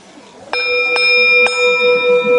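A temple bell is struck with a mallet three times in quick succession, each hit adding to a bright, shimmering ring that hangs on and sustains loudly after the last strike.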